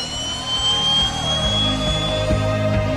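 jet aircraft engine

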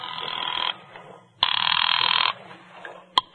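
telephone bell ringing

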